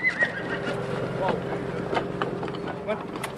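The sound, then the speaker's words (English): A white stallion named Gringo circles a man in prison garb in a round pen, its hooves thudding in scattered, uneven steps while a faint, brief whinny rises above a steady low engine-like hum, with what may be a voice murmuring underneath. “A white stallion named Gringo circles him.”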